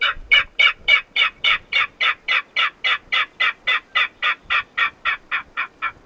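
A recorded king rail call: a steady run of about twenty harsh, raspy notes in even rhythm, loud, fading slightly toward the end.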